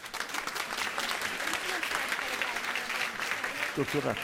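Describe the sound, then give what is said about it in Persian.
A group of course participants applauds themselves with dense, continuous clapping that fills the whole stretch, and a voice briefly speaks over it near the end. “اوکی، گوش بدید بچه ها، خودتون تشویق کنیم.”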